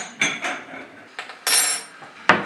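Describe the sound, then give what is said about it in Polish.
Dishes and cutlery clink and clatter while coffee is being made, in a few separate bursts, sharp bright knocks of ceramic and metal with short pauses between them, moderately loud with no one talking. “Może kawkę zrobię? Słabnie wodę.”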